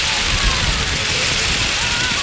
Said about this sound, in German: So hören sie sich im Einsatz an die Windräder, die die Schüler gebastelt haben.